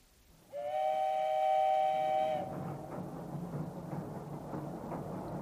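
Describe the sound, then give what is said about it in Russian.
A steam train's whistle blows one loud, sustained blast for about two seconds, then gives way to the steady rumble and rhythmic clatter of the rolling wheels of a 7 o'clock morning train travelling to Moscow. “На другой день с 7-часовым утренним поездом Петька уже ехал в Москву.”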